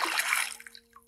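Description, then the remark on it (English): A single splash into a pond, a bright burst of spray that quickly settles into a few small drips and trickles. “And I was shot out into a pond.”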